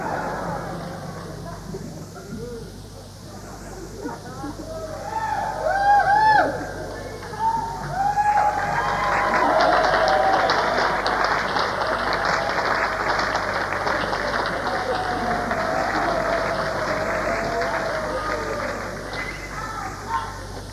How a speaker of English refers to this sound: Remember, it was used to more applause than that.